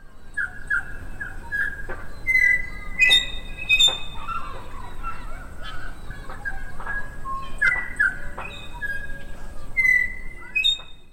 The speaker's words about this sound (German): Also du hörst jetzt den typischen neuseeländischen Sound, also einen Sound, den man überall hört, wenn man in Neuseeland ist. Das ist ein Vogel, den gibt's nur in Neuseeland. Das ist der Tui.